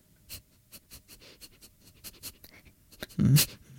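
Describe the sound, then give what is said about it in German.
A person imitates a dog sniffing with a quick series of short, breathy nasal sniffs, ending in a louder, longer snuffling burst. “Hundeschnüffeln.”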